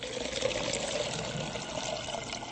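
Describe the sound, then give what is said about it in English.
Fermenting young wine (burčák), cloudy and mustard-colored, poured by a barman from a plastic keg into a glass in the Czech Republic, fizzes in a steady hiss of tiny crackling bubbles from microbacteria at work, continuous and even throughout with no voices. “Hear that fizz? It's the sound of microbacteria at work inside the burčák.”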